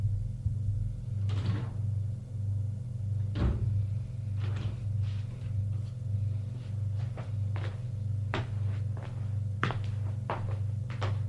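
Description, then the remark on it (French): A woman's elevator ride up to the fifth floor to her home: a steady low mechanical hum runs throughout while scattered thunks and clicks sound at irregular intervals, fairly loud, with no voices. “Elle va prendre l'ascenseur pour monter chez elle. Jusqu'au cinquième étage.”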